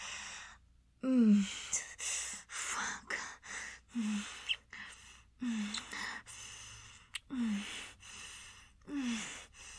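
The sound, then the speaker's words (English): A series of short, breathy gasps, about six of them, come in quick succession. Each carries a brief voiced catch, and there is no talking. “That little gasp.”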